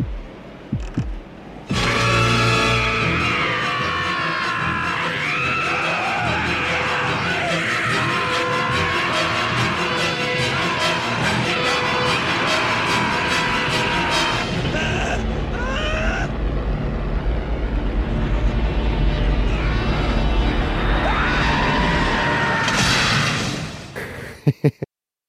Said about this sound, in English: Just before Humongous slams into the semi-trailer being driven by Mel Gibson, you give off the best death scream of all time. It still echoes in my mind.